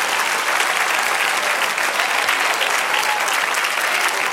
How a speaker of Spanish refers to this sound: Por tanto, aplauda ahora. Aplauda.